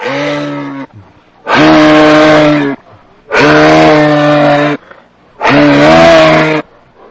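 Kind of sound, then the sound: animal, moose call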